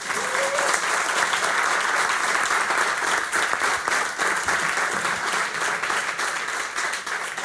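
Sustained applause from an audience, a dense, steady wash of many hands clapping at an even loudness for several seconds, with no voices rising above it.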